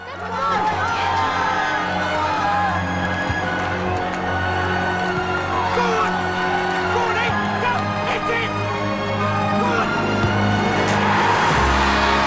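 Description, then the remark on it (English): A large crowd of flag-waving football fans at the England versus West Germany match cheers and shouts in a dense, continuous roar that stays loud and steady throughout, with many voices blending into one wall of noise. “They squeeze in through the cheering, flag-waving fans.”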